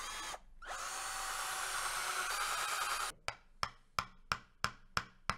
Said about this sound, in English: It's incredible, really, how much work a corkscrew actually does. You don't really think about it until you don't have one. So anyway, you drill a hole.